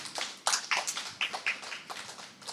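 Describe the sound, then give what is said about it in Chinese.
A church audience claps in applause to God after a testimony of healing, a dense patter of overlapping hand claps with a few sharper individual claps standing out, fairly soft and with no voices over it. “我给点掌声我们的天父啦，哈利路亚。”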